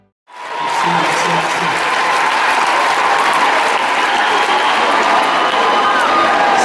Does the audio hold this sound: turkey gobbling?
no